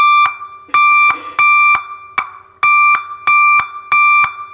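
An electronic vehicle horn is demonstrated, sounding loudly in a rapid series of about seven short, harsh tonal blasts at a steady rhythm, with no voices.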